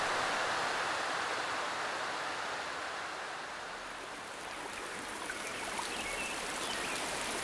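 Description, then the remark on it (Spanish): Steady rain pours down in a continuous, even hiss that fills the whole recording, dense and unbroken without any voices. “Pero está lloviendo más.”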